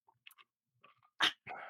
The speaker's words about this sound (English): Take a little rum sip. Nice little sippy.